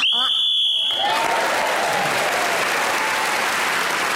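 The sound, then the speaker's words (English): A shrill, high-pitched whistle blast, blown to end the round while Jenny Eclair was speaking, lasts about a second and cuts off abruptly, then loud, steady applause takes over and continues to the end. “So Jenny Eclair was in speaking as a whistle when gained that extra point, and she's now in the other points in the round.”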